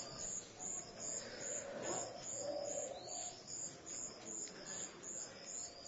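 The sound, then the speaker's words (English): Birds that walk around everywhere unafraid coo amid a steady outdoor hum, while a rhythmic high-pitched chirping pulses evenly throughout the background. “Over here, the birds, you know, walk everywhere, they are not scared.”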